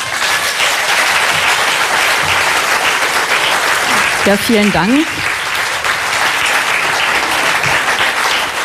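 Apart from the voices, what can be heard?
audience applause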